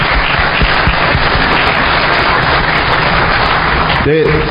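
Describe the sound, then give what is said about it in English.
A crowd applauds the researchers who jailbroke the iPhone: dense, steady clapping at a loud, even level across the whole clip, fading out near the end as a voice begins to speak. “We can applaud them if they're not here, but it's sort of meaningless.”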